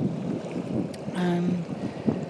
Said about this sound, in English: Can you hear that roaring in the background? That's a reef about a quarter of a mile away.